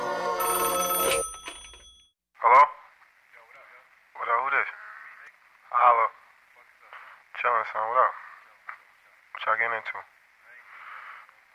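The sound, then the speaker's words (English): A telephone rings briefly at the start, a bright metallic trill, followed by several short, tinny, warbling bursts repeating every couple of seconds, like a voice over a phone line. “The phone's ringing. It's ringing. Answer the phone.”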